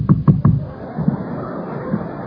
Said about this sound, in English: And I was in my dumpster out back one night, and I heard a knock on the lid.